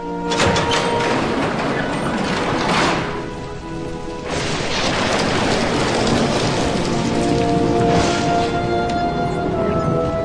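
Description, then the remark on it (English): Heavy torrential rain pours down outside STAR Labs in a steady, dense roar, drops pelting hard surfaces, with a brief lull midway before the downpour surges back at full strength. “we're live outside Star Labs despite the inclement weather, which is only going to get worse. The torrential downpour”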